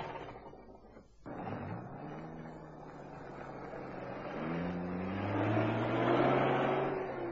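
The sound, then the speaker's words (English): A truck engine, its key left in the ignition, roars to life after a brief pause, then revs and accelerates steadily, its low droning pitch climbing as it grows louder and pulls away at speed down a village street. No voices are heard. “Luckily, the key was in the ignition.”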